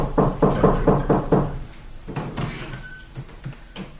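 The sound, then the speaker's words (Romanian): Someone raps on a door with a quick, steady series of about six loud knocks, followed by a few quieter scattered thuds and clatters. “Să batul la ușă.”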